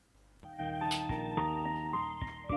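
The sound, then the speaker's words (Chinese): A QQ voice call ringtone plays while an outgoing voice call waits to be answered: a bright, melodic electronic tune of sustained tones that shift pitch every second or so, steady and fairly loud, with no talking over it. “哇，他这个铃声都比较特殊啊，看一下有没有人接。”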